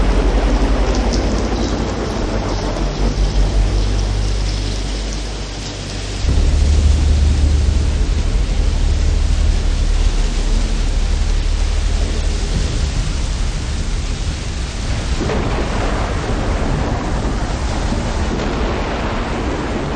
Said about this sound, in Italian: Sì. Pioverà. Sì. Piove. Piove. Sì, piove. Scende la piove. Scroscia.